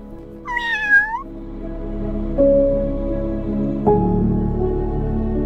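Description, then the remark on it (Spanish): A single clear cat meow, rising then falling, rings out near the start, followed by a steady low droning tone with a couple of soft shifts and no voices. “Cada mañana me despertaba con sus ronroneos, sus maullidos, y me animaba.”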